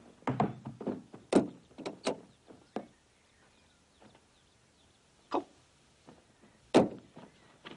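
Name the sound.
door being opened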